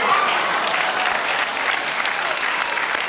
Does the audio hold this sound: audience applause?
yes